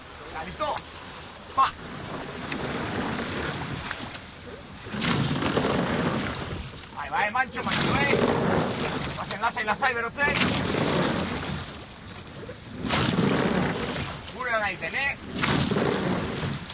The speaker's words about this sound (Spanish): Crujen los remos y las cuadernas de la embarcación mientras el timonel reparte su sabiduría para dosificar las fuerzas y mantener el ritmo.